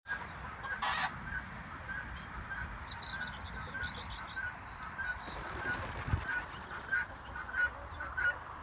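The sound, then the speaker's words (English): A chicken flies up, its wings flapping in a couple of short, rustling bursts amid a noisy flock of poultry honking and clucking steadily in the background, no one speaking. “But chickens can also fly up. Here's some evidence.”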